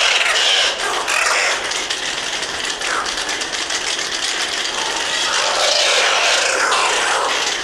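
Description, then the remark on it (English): A fast, dense stream of sharp bird echolocation clicks rattles on continuously and loudly, with a hissy, ratchet-like texture and no voices. “Bird.”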